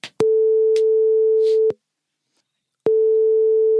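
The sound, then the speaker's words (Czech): A phone line's ringing tone: a steady, mid-pitched electronic hum sounds for about a second and a half, pauses for about a second, then starts again. It is loud and alone, with brief clicks at the start. “To už zvoní.”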